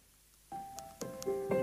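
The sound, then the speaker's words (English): A gentle iPhone alarm tone called Seedling: soft, bell-like notes enter one after another in a rising melodic pattern, each ringing on and overlapping, fairly quiet with no talking. “And then my one is an alarm sound called Seedling.”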